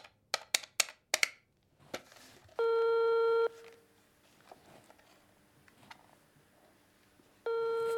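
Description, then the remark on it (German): The number of Schloss Falkenstein is dialed from an office with a quick run of sharp clicks or beeps, followed by two steady electronic ring tones separated by a pause with faint background noise. “Dann wählt sie die Nummer von Schloss Falkenstein.”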